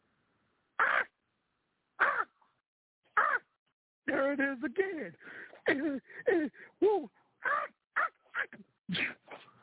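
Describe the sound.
A bird calls three times indoors, harsh squawks spaced about a second apart. A man then starts talking over more short, sharp calls.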